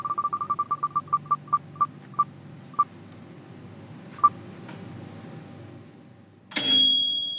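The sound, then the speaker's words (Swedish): Short, bright electronic beeps from a microwave oven repeat quickly, then slow down with widening gaps. A lone beep follows after a pause, and a sudden burst of hiss with a steady tone closes it. “En mikrovågsugn.”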